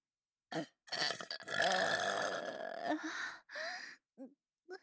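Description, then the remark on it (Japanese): A loud, close-up belch rumbles on for about two seconds, framed by a few shorter burps and breathy bursts before and after, with no talking. “行ったら、絶対にもうこんなゲップ、してあげないんだからね。”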